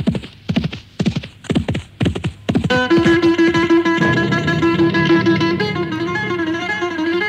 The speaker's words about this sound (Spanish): ensilló su caballo y antes de que saliera el sol enfiló camino de Asís a toda prisa.